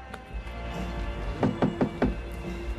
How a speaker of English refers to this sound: Isaac taps on the car door.